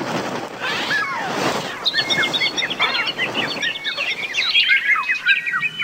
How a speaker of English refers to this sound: Oh man, birds are the worst. They're the worst broadcast animals. They're high-pitched, they're constant, they don't stop. Birds are just the worst.